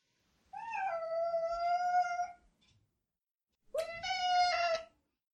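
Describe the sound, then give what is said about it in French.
Two long, drawn-out cat meows at home, the first stretching nearly two seconds, then a short pause before a second, slightly higher-pitched meow. No one speaks. “Bonjour les chats.”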